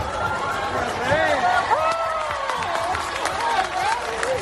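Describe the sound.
A dense crowd sounds steadily throughout, with overlapping voices calling out and cheering over a continuous wash of noise, with scattered clapping. The crowd cheers and applauds King Felipe and Queen Letizia arriving at Plaza Albert Einstein in Granada for Armed Forces Day.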